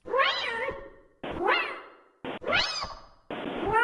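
A cat at a hotel meows loudly, letting out three or four drawn-out, wavering cries in quick succession with only brief pauses between them.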